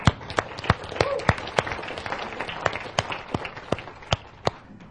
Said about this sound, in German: Der Applaus ist für Sie.